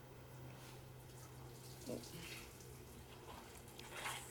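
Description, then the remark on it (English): Water runs steadily from a tap in a continuous hiss at moderate volume, with a couple of brief splashes breaking through and a faint low hum underneath. “The sound of water makes her look up”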